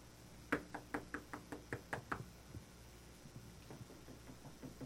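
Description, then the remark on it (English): A quick run of about nine sharp knocks on a door, evenly spaced, followed by fainter taps over a low rumbling background. “This is a word that was used in classical Greek to describe a porter, someone who heard the knock at the door and went and answered the door.”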